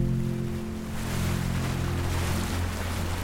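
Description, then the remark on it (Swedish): A motorboat drones steadily with a low engine hum while water rushes and splashes against the hull, travelling across choppy sea out to the island of Björn at the outermost tip of the Uppland coast in Sweden. “Med båt tar vi oss ut till den yttersta spetsen på Upplandskusten, till ön Björn.”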